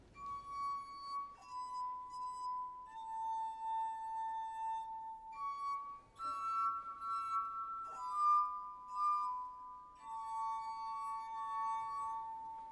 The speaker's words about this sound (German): hat seine musikalischen Gläser mit unterschiedlich viel Wasser gefüllt und reibt nun gekonnt über ihren Rand. So entstehen nämlich die Töne. Jetzt hört man genau hin, wie das klingt.